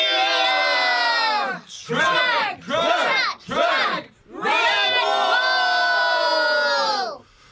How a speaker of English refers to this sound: Redwall's cheers rent the air as the warriors roared out their battle cry.